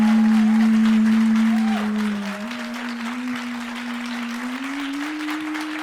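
A crowd applauds, measured by an applause meter, for a question about how long they would survive in the forest: a steady, dense wash of clapping that eases slightly after the first couple of seconds, with a sustained low tone humming underneath that slowly rises in pitch.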